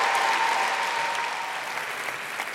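A large crowd at the Royal Albert Hall, including the cast of the play Emilia, applauds steadily, with cheering mixed into the dense wash of clapping. The sound is loud and sustained, easing slightly toward the end.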